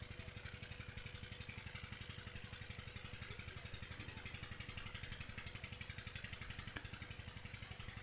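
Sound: water pump running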